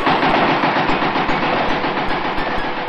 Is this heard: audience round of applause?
no